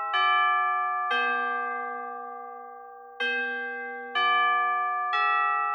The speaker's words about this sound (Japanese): え？何？なんでそんなにチャイムが鳴るの？何のチャイム？放送部に私のことが嫌いな人いる？そんな短いスパンでチャイム鳴ることある？